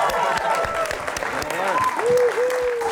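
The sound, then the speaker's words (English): Steady studio audience applause for game show contestants fills the whole stretch, dense clapping from a crowd at moderate loudness, with a few faint tonal whistles or cheers rising over it. “Let's give them a big round of applause.”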